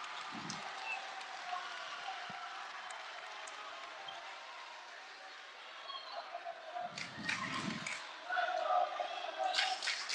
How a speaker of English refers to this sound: Division II quarterfinal in the very tiny James M. Williams Gymnasium. Listen to the crowd.